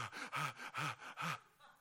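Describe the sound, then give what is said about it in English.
Heavy, rapid panting from people: four loud, rhythmic breaths with a raspy, voiced edge, each ending in a strained gasp, then a quiet trailing exhale. No talking. “People are having, I hear a lot of people panting heavily.”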